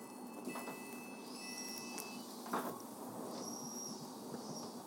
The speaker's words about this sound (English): This is Surbiton. This train is for London Waterloo. The next station is Wimbledon.